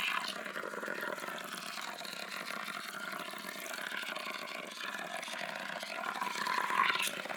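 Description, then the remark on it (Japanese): Carbonated water pours steadily during a hair wash, a continuous fizzing hiss with fine crackling bubbles that grows a little louder and brighter toward the end. No one speaks. “さすが炭酸、私の秘密兵器ですよ、これは。”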